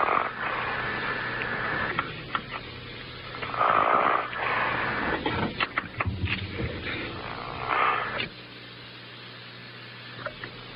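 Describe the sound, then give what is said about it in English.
A man, a coach on a phone call, snores over a muffled, band-limited phone line, with two heavier rasping breaths a few seconds apart amid steady low hum and faint background noise; no one speaks. “Or snoring? He's snoring.”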